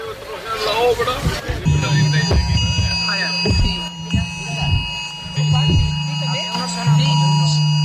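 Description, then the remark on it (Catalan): Many people's mobile phones in a city centre blare emergency alert tones at once, just after 10 o'clock, steady high pitched beeping in overlapping layers with a low buzzing pulse, while a crowd murmurs and people talk underneath. “Doncs a les 10 i pocs segons han sonat les alertes dels mòbils de força gent que teníem al voltant.”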